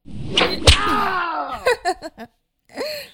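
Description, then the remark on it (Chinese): Two sharp whip cracks snap in quick succession as a man is whipped, followed by his strained, wavering cries of pain and a few short gasping sobs, then a final groan. “哼，放心好了，这根鞭子嘛，老子是不会用来抽你的，老子要用它抽打你爸爸。”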